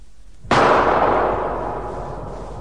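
A single loud gunshot cracks out suddenly after a moment of quiet, then rings off in a long, slowly fading reverberant tail. No one speaks.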